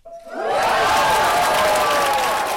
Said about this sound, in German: Der Applaus ist riesig im Stadttheater, wo klar ist, dass die Sanierung durchgekommen ist. Endlich, ein Aufschnaufen geht durch die Reihen.